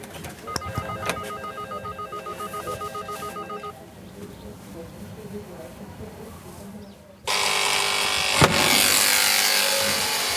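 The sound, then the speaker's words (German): An electronic doorbell at an apartment block in Eberbergfrieden rings with a bright, pulsing tone for a few seconds over low rumbling background noise, then a loud, steady rushing hiss takes over. “Das ist natürlich blöd mit der Klingel.”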